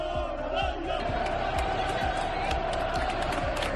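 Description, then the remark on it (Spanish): A loud basketball arena crowd at Sar roars and cheers continuously as the players are welcomed before the match, with steady dull thumps of basketballs bouncing on the court beneath the din of many voices. “Así eran recibidos los jugadores en Sar antes del partido y después de un partido con victoria amarga, un largo aplauso los despedía.”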